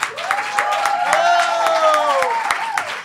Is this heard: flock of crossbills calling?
no